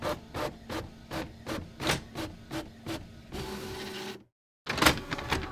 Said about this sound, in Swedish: Först så ska ni få höra hur en Triceratops låter. Visst lät det nästan som en kyckling.